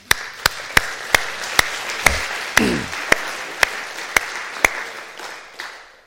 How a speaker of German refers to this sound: Ein Applaus an Max.